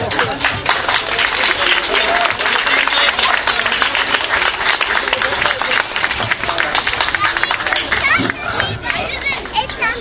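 An audience applauds steadily for about ten seconds, a dense, loud wash of many hands clapping, with some crowd murmur mixed in and a slight dip near the end.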